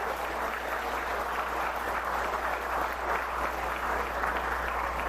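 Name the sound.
audience applause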